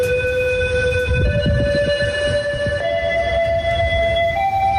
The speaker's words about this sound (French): Quatre notes crescendo, alerte de niveau 4. Quand la sirène aiguë retentit, ça veut dire que l'eau a dépassé 1,40 m.